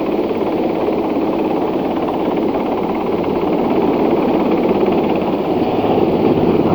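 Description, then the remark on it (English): A rescue helicopter hovers over a mountain pad under cloud cover while paramedics help people aboard, its engine and rotor roar loud and steady for the whole stretch, a dense, unbroken mechanical rumble with no voices over it. “And the helicopter hovered while the paramedics helped people aboard.”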